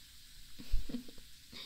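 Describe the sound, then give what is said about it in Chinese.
A steady hiss of strong fizzing bubbles, crackling, with a few soft, low thumps mixed in partway through. No voices. “没有，这个也是一种比较强的气泡，嗯。”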